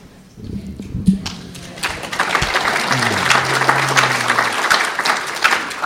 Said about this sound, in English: They clap after you talk, and they don't clap after I talk.